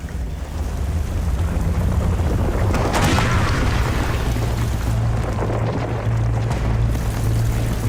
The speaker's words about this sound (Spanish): ¿Qué fue eso? Aflojadas por la lluvia, piedras enormes comenzaron a caer, estallando alrededor